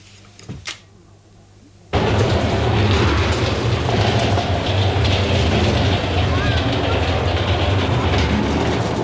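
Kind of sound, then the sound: vehicle, train pulling into station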